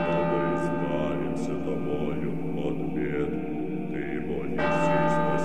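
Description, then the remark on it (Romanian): Church bells ringing steadily, their deep overlapping tones humming and sustaining throughout, with a fresh loud strike swelling near the end; full, with no talking. “Clopotele băteau și mie mi se părea că de înmormântare.”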